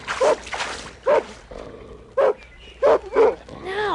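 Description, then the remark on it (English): A mean dog barks gruffly about five times while coming closer, in uneven bursts, each bark harsh and loud, with short gaps of quiet between them and a rougher, growling edge near the end. “Sounds like a dog. A mean dog, and it's coming closer all the time.”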